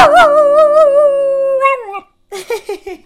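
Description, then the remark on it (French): A dog lets out a long, wavering howl lasting nearly two seconds, then a pause, followed by a few shorter excited yips and whines, fairly loud. “Ah ben, Lucky, c'est qui le meilleur chien du monde? Ah, il est content que tu dises ça.”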